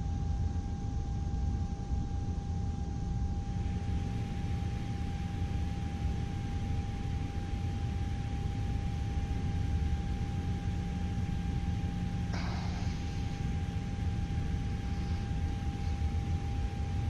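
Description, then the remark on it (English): An aircraft engine starting up: a steady, dense rumble with a sustained high whine that swells a few seconds in, plus a brief sharp burst near the end. No voices. “Oh, amazing startup sound.”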